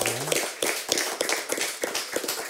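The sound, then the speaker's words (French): A short burst of applause on a broadcast show, celebrating an author's 29 books, with many hands clapping in quick, uneven bursts at a steady moderate loudness throughout, sounding like a small studio audience. “Hein, je crois que ça peut s'applaudir, rien que ça, déjà, 29 bouquins.”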